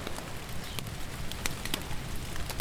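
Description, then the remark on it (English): Steady rain pours down in a dense, hissing wash, with sharper drops pattering and spattering on a hard surface throughout. No voices, just continuous rainfall at an even level. “Snow falls at high elevations to create glaciers, and at low elevations, it rains and rains and rains.”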